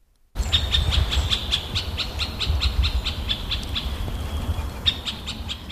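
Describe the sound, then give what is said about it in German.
A middle spotted woodpecker, a small, shy bird, calls in a steady run of short, nasal notes, repeated evenly for several seconds over a low, rumbling background of wind or other noise. “Er ist ein kleiner, scheuer Krampfer, der Mittelspecht.”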